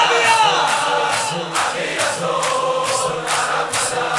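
A large crowd shouts loudly and continuously, voices merging into a dense roar with steady rhythmic surges roughly twice a second, like a chant building in unison.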